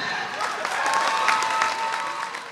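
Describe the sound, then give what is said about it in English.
A crowd of fans, family and recruits packed into a gym applauds steadily as the Huntington Hawks, a collegiate women's wrestling team, present their 2023 team at the season opener; dense clapping with a few cheers and whistles rising above it, fairly loud throughout. “In a gym packed with fans, family, and recruits, the Huntington Hawks give the crowd a look at their 2023 wrestling team.”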